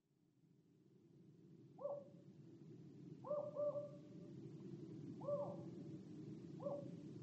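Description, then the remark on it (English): An owl shrieks outside in short, repeated calls, about five spaced a second or two apart, over a steady low rumble of background noise. “Outside, an owl shrieked.”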